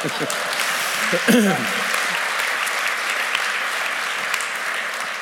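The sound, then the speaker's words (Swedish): An audience breaks into steady applause for Jesus, a dense crackle of many hands clapping that holds for several seconds. A few voices briefly cut through near the start. “En applåd för Jesus.”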